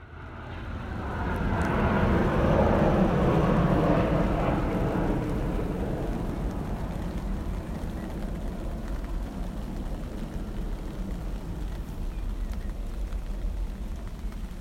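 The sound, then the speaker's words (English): A landing plane roars in directly overhead, swelling to a loud, broad rumble within a couple of seconds, then lingering as a steady, fading wash of engine noise. “Now regretting not braving that rain a little longer, because the plane has just landed directly over my head.”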